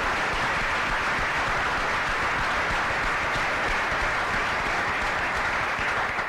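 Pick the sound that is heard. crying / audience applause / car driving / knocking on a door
audience applause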